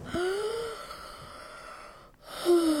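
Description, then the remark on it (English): Two sharp, breathy gasps of people breathing at the start of a song, one at the very start and another near the end, over a soft sustained hiss, with a brief drop to near silence between them. “Okay, so this is just people breathing.”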